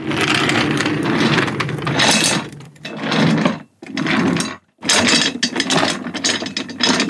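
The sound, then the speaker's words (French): A chair scrapes and creaks loudly across a wooden floor in several long, grinding, ratchety bursts separated by brief pauses, with no voices. “Qu'est-ce que c'est que ce bruit ? C'est le patron qui fait de la chaise artistique”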